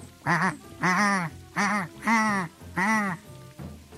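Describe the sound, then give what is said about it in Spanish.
A flock of wild geese flying high toward the south honks five times in a steady rhythm, loud, nasal calls coming close together with short gaps and no voices in between. “Allá muy alto vio una bandada de gansos salvajes que volaban hacia el sur.”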